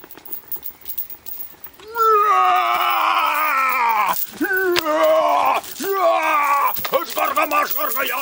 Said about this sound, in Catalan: La seva boca sortien uns crits esgarrifosos.